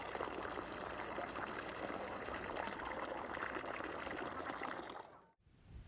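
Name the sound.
water running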